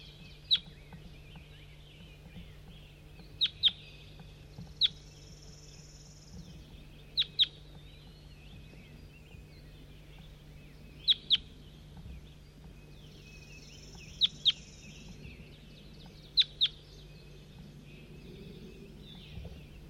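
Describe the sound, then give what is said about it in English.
Short, sharp bird calls ring out in pairs and singles, about a dozen in all, spaced irregularly over a soft steady hum, with a faint high chattering now and then between them. “Start recording bird 4-3.”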